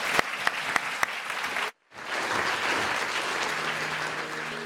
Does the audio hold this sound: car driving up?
no